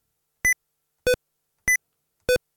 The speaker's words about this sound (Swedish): Det blir ett pipljud. Jag kommer åt den här numlock. Och när jag trycker åt den så låter det pip liksom.